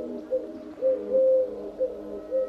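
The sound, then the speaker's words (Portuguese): A Eurasian collared dove in an olive tree in the wild Ria de Alvor ecosystem coos in soft, hollow notes, several rising and falling calls in a steady rhythm, clear with no talking. “É uma das muitas rolas turcas que podemos observar neste ecossistema selvagem da Ria de Alvor.”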